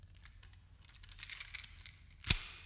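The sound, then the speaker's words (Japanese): Bright metallic jingling of keys shifting and clinking for a couple of seconds, ending in one sharper clack as they are grabbed or knocked together, as the keys are handed over to be taken; no one speaks. “鍵ですよ。さっさと取って、低層体を外してください。”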